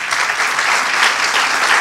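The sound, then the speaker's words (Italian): A crowd of young people at a youth gathering claps steadily and loudly, a dense wash of many hands applauding at once with no pauses, filling the whole short moment. “Sapete che volevo che vi faceste un applauso, ma per voi.”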